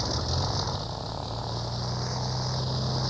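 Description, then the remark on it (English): A propeller airplane drones steadily and loudly, its low engine hum holding constant with a hissy high wash over it, with no voices. “The airplane came skimming in, and then it was gone again”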